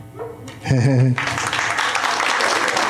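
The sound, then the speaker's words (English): A short, tonal vocal sound, somewhat like a yelp, gives way to polite, golf-style applause of a modest crowd. The clapping stays moderate and even for the remaining couple of seconds. “Followed by polite golf applause.”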